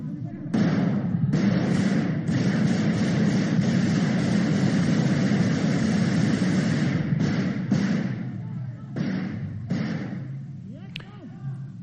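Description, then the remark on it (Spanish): Sustained bursts of loud, rapid gunfire shot at the ceiling of the Congress, with Tejero on the stairs of the tribune, crackle with a few brief pauses, shouting voices mixed in before it fades. “Luego llegaron los disparos al techo del Congreso.”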